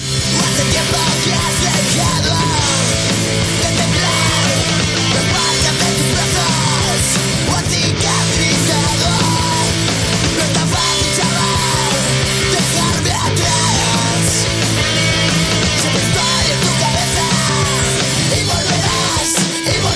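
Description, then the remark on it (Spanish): A loud, dense recorded song plays throughout, with heavy distorted instruments and harsh shouted vocals driving over a steady, relentless rhythm; the title track of a 2011 LP by a band from A Coruña, Galicia, Spain. “Pues os voy a preparar un temilla”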